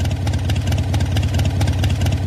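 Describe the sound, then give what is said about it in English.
A Harley-Davidson V-twin motorcycle engine idles, a loud, steady, lumpy rumble with a regular potato-like pulse of uneven firing beats throughout. “I've just taught you how to do a mean impression of a Harley-Davidson motorcycle with a V-twin engine at idle.”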